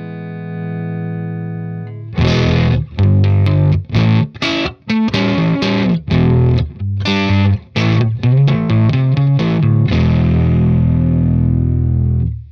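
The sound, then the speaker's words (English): Electric guitar played through a gritty boost pedal, not a distortion pedal, whose big volume jump drives the amp's front end; a soft sustained note gives way to loud, crunchy overdriven chords and choppy strummed stabs, ending on a ringing held chord. No voices. “It's got a little overdrive to it, you know. I think it's pretty gritty, you know.”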